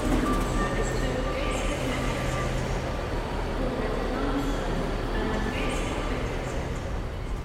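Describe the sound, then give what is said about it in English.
A steady, continuous low rumble of a train heading north toward Newcastle, moving along the track, with faint tonal hums and soft mechanical noise throughout, even in loudness. “The rumble of the track.”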